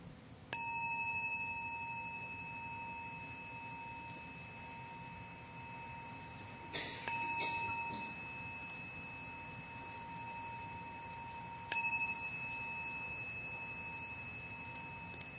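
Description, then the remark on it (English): A meditation gong is struck three times, several seconds apart, each stroke leaving a clear, sustained metallic tone that rings on and slowly fades. No one speaks, and a low hum sits underneath. “Continuing with presence, just to hear the sounds of the gong, let them come and go in awareness.”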